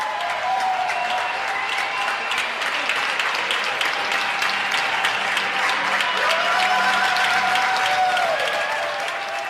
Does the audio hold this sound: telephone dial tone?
no